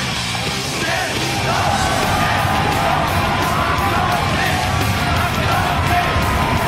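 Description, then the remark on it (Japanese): A packed crowd at Korakuen Hall roars nonstop before a Japanese featherweight boxing title match of 10 rounds, a dense wall of cheering and shouted yells that holds steady and loud for several seconds, with individual bellows and whoops rising out of the din. “実況席の我々の声が聞こえるでしょうか。それほどの応援合戦、そしてその興奮を裏切ることのない戦いが予想されます。”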